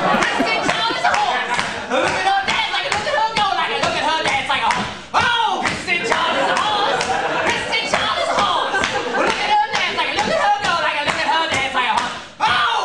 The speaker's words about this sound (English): … does this maniacal singing and clapping. And Kristen is doing this horsey dance.